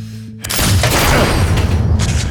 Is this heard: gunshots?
yes